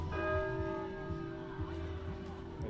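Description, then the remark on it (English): A church clock bell, the clock on the tech, strikes once and rings on with a long, steady, resonant hum, while faint murmuring voices carry on underneath. “Yeah, I'm sure that's the clock on the tech.”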